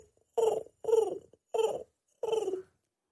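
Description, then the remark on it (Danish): A person imitates a pigeon's cooing with four low, throaty coos at a steady rhythm, fairly loud, separated by short silences, with no talking. “Ja, jeg lokker jo altid duer til med en skål varm yoghurt.”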